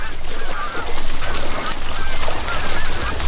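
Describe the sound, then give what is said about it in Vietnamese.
A loud, continuous chorus from a great cormorant breeding colony of hundreds of thousands of birds, nesting where Lake Buer meets the Khankin River, with many harsh, overlapping croaks and honking calls blending into a dense wall of bird noise, with no talking. “Hàng trăm nghìn con chim cốc đến đây sinh sản.”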